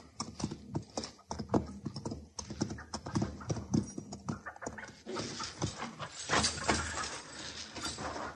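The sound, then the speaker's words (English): Horse hooves clip-clop in a quick, uneven rhythm of sharp knocks, then give way to a louder, hissing rustle of movement for the last few seconds. No one speaks. “Put the horse away and get in the house.”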